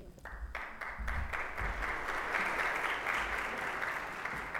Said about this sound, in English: All right, let's give this panel one more round of applause.